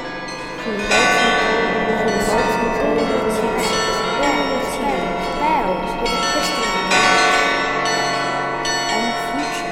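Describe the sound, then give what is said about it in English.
Wedding bells ring out steadily and loudly after a brief quiet start, their overlapping metallic tones building into a dense, sustained peal with wavering, voice-like tones beneath. “Hear the mellow wedding bells, the children bells.”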